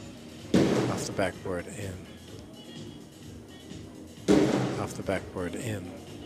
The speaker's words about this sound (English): Wayne went first, slamming every ball off the backboard.